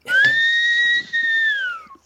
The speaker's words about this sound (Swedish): Jag får inte till visslingen. Jag gör en gång till.